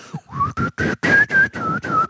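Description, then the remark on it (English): Someone whistles a short, wobbly tune in breathy, uneven bursts, the pitch wavering and the notes broken by gaps and airy hiss, with no one speaking. “Here's the downside if that's true. Most people can't whistle well.”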